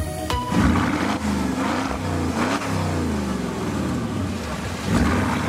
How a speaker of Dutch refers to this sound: Dit is gewoon de Porsche Cayenne Turbo uit 2004. Klinkt best lekker eigenlijk.